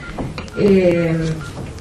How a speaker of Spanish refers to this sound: Esperemos que este teléfono deje sonar, gracias.